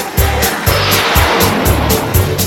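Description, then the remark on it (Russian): A car roars loudly as it drives off, tires squealing over a dense, steady engine noise with a regular pulsing thump underneath. No one speaks. “А машина зверь, слушай.”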